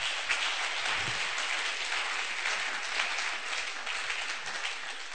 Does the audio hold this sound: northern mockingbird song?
no